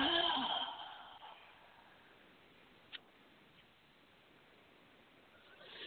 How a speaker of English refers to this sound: Just that breathing, sometimes we call it the 4-7-8 breathing or calm breathing. Breathing in through your nose. Holding. And then letting your jaw drop, kind of even making a sound and breathing out to your mouth.